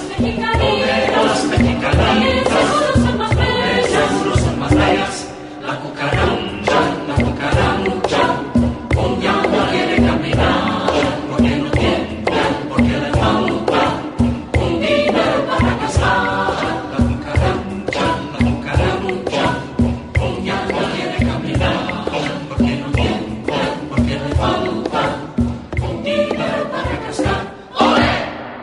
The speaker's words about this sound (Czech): Je to přesně tak, to je mexická lidová písnička, která se jmenuje La Cucaracha a nastudovali jsme ji právě pro turné v Mexiku.